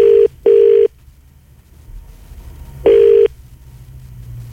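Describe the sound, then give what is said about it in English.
A phone line ringing out as a call is placed to a person's number: a steady mid-pitched ringback tone sounds in a quick double burst, pauses, then starts another, over a faint low rumble with no one talking. “So we're going to call it.”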